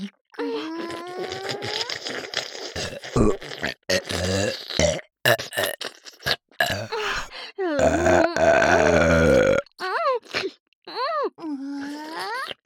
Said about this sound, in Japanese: 超連続ゲップ、聞きたいですか？ 聞きたいに決まってるよね。聞かせてあげる。